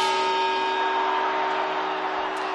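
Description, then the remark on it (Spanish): A loud clock bell strikes on New Year's Eve, 31 December, its deep metallic tone humming steadily with bright overtones for a couple of seconds, with no talking over it. “Y ahora las campanadas.”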